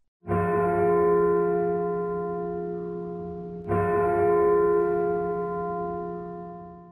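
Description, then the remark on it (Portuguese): Two loud, resonant strikes of a church bell from the church tower, tolling 2 o'clock in the early morning, each ringing out with a rich, sustained hum that slowly fades before the next toll. No voices. “Do alto da torre da igreja, o sino anuncia às 2 horas da madrugada.”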